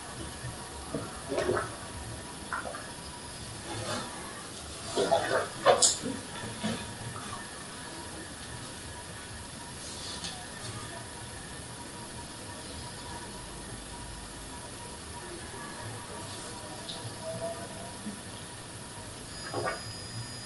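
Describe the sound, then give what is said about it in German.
Water pours steadily into a drinking glass for about twenty seconds, a continuous wash of splashing with a few brief louder bursts near the start and end. No one speaks. “ja, ein Glas Wasser zu trinken.”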